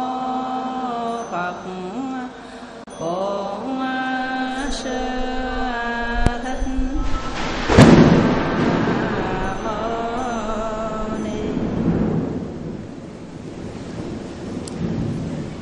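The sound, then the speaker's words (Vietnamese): Rolling thunder as rain approaches, during an afternoon Buddhist teaching session, swells up midway and rumbles on through the rest, a loud, deep roar over steady rain-like hiss, while voices chant or sing in long sustained tones throughout. “Chiều nay chúng ta học Phật pháp, trời có chuyển mưa”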